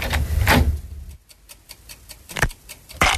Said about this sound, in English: Look, just stay in your room. I'm going to lock the door while I'm out.